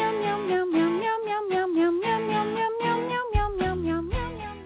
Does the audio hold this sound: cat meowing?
yes